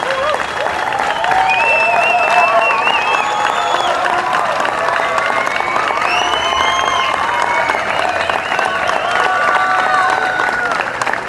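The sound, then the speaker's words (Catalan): A crowd applauds steadily for several seconds in tribute to the team behind the president of the patronat, a dense, even roar of clapping hands with occasional shouts and cheers rising through it. “Com aquest aplaudiment va per ells.”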